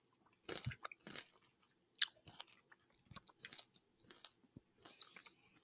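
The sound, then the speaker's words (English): Crisp crunching as a hard candy lollipop is bitten and chewed, a sharp crack near the start followed by irregular brittle snaps and grinding bites, with no talking. “nah, I'm just gonna bite it. Okay, here I go. Ooh. How's that sound? That sounded really good. It's like that was a solid crunch.”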